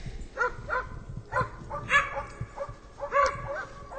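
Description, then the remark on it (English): A female search and rescue dog barks repeatedly in quick, insistent bursts, about eight or nine sharp yips and barks over a few seconds, loud with some outdoor background noise, alerting her handler that she has found a person lost in a forest. “Her bark is the alert to say that she's found somebody.”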